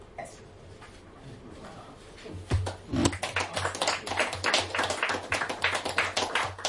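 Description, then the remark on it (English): An audience at a poetry reading breaks into applause, starting with a few scattered claps and building into steady, dense clapping from many hands, moderately loud and sustained. “And I'll read just one more poem, but first my thanks to all of you for listening, for sometimes clapping.”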